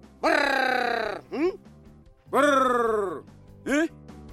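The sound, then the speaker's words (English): A man's voice gives a loud, drawn-out trilling call that slides downward in pitch, then a short rising grunt. The two-part call is repeated twice, clear. It is a Yao honey hunter's call in Mozambique, made to attract greater honeyguide birds. “the honey hunters make special calls to attract the appropriately named greater honey guide bird.”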